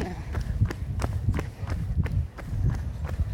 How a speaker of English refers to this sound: Right now? Yeah, we start running. Race the train.